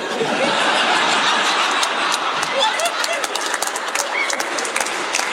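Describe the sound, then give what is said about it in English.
An audience applauds steadily for about five seconds, a dense wash of clapping mixed with scattered laughter and a few whoops, loud and unbroken throughout. “Actually, don't clap for that one.”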